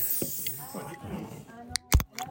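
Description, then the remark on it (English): A Kronenbourg beer, made in Strasbourg, being opened with a short, sharp hiss of escaping gas, followed by a couple of brief fizzy bursts, over faint background voices. “I'm opening my own painkiller, made by Cronenburg in Strasbourg.”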